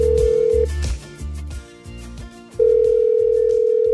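A steady telephone dial tone hums loudly as a radio host places a call to a listener, cuts out briefly for a stretch of quieter low rumbling, then returns strong and continuous until the end.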